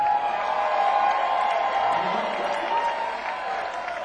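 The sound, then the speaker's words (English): A crowd in Las Vegas applauds and cheers steadily for about four seconds, a dense wash of clapping with scattered shouts, fairly loud, no talking standing out above it. “So by show of hands, round of applause, folks.”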